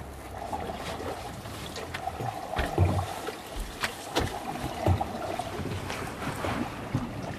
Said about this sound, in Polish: To stukają linki o maszt. Można by je podciągać, tak żeby nie stukały, ale ja wiem, ja to lubię chyba, jak tak stuka.